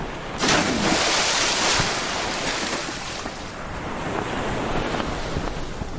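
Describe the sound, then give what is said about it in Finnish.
Loud, roaring sea waves crash continuously while strong wind rushes over them, a dense, steady stormy wash with a surging peak early on and no voices; a storm at sea around a ship, growing ever stronger. “Myrsky yltyy yhä vain kovemmaksi.”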